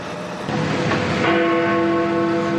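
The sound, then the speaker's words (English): The bell of Big Ben, the historic clock tower in London, strikes once. Its deep, resonant tone rings out and sustains with a long humming decay over steady background noise. No one speaks. “Instead of tolling every hour as it has since 1859, with a few exceptions, the bell will take a four-year break.”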